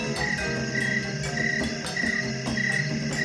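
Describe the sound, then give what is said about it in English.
A dense nighttime chorus of frogs croaking in repeated pulses over a steady bed of chirping crickets in Pennsylvania, continuous, with no voices. “but I will bring up some crickets and other creatures of the night from Pennsylvania.”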